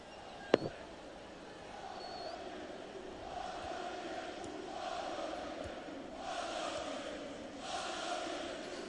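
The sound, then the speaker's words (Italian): Juventus fans chant an anti-Liverpool song, sung at the 39th minute, in a stadium during a Juventus vs Manchester United match, a dense crowd roar that swells in repeated waves. A single sharp knock sounds near the start. “No, questo è odio Liverpool dei tifosi della Juve.”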